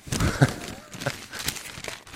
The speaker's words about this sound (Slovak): To, ak by ste náhodou v živote nepočuli, tak toto je šušťanie novín. Tie noviny sú tak veľké, že keď som ich rozprestrel, tak mám pocit, že mám pred sebou mapu Juhoslávie a cestujeme s rodinou do Chorvátska. Tak obrovské to je.